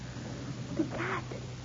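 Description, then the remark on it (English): A brief, fairly quiet cat yowl rising into a breathy hiss, lasting under half a second against a low background hum, with no voices. The cat is crouching beside an Iron Virgin torture device. “The cat. It was crouching almost out of sight beside the Iron Virgin.”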